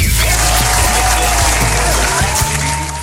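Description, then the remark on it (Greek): Sustained audience applause for Kostas Lefakis, a dense, steady wash of many hands clapping at a constant loud level for a few seconds, with a low hum underneath and no voices standing out. “Ένα χειροκρότημα για τον Κώστα Λεφάκη, παιδιά.”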